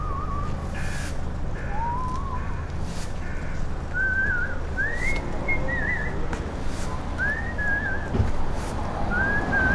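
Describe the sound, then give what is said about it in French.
A street sweeper whistles a slow, wandering tune outdoors in the daytime on Boulevard Casanova, short melodic phrases rising and falling at moderate volume over a steady wash of street noise and traffic rumble. “Extérieur jour, boulevard Casanova, un balayeur sifflote.”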